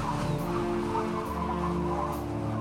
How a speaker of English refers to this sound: Listen carefully to the sounds and be ready to say what you can hear. There are big waves crashing against our ship. And a wild, whistling wind.